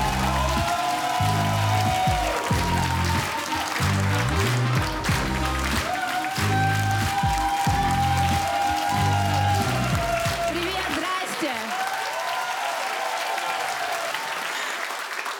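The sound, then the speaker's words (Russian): An audience at a TNT stand-up comedy show applauds steadily to welcome a comedian making her debut, a dense crackle of many hands clapping at once. Upbeat music plays underneath until near the end, when it drops out and only the clapping continues. “Поэтому, если у вас есть сердце, поддерживайте, аплодируйте.”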